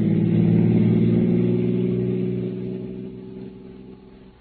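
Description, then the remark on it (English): A car engine hums steadily with a low droning rumble, strong at first and then gradually fading as the car slows to stop; no voices. “In a minute, I'll stop the car and let you know what is yours.”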